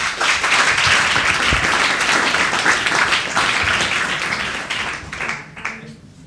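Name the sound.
audience applause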